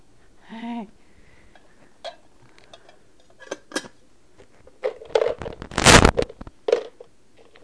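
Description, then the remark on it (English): Metal cooking pots and lids clank and clatter together as a small child plays with them, in an irregular series of sharp knocks, building to a louder bang near the end, with a brief voice sound early on. “Mommy has something you don't usually play with, the pots.”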